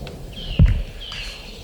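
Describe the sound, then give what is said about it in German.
A goshawk calls twice, each a drawn-out, high, thin cry, with a brief low thump between them over steady background noise. “Er liegt wirklich links und mich nur diesem Habicht zu widmen, dessen laut Rufe gut vernehmbar sind.”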